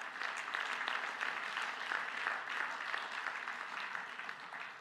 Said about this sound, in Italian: Dai un applauso più forte per il Signore.